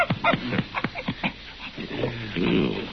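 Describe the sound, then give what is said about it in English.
A male dog whimpers and snuffles, with short high whines and breathy panting sounds in quick uneven bursts, ending in a longer muffled whine. “Well, he's friendly enough, aren't you, boy?”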